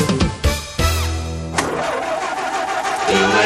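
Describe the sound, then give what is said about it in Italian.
A car engine sputters and coughs in a few uneven bursts, briefly catches with a droning hum, then stalls with a jolt, leaving rough, noisy rumbling. Fairly loud, no voices. “La tua macchina si ferma in continuazione?”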